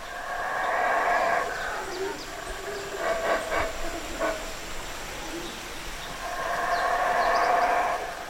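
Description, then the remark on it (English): Howler monkeys, Belize's largest primate, roar in the jungle of the Coxcomb reserve in Belize in two long, loud, droning bouts at the start and end, with shorter pulsing calls in between over a steady background hiss. “As I drive into the reserve, I hear the sound of howler monkeys, Belize's largest primate.”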